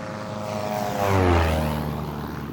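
A foreign propeller surveillance aircraft drones overhead while following a research ship carrying two mini-submarines in 1987; its engine tone swells as it passes by and then eases off, with a steady harmonic hum and no voices.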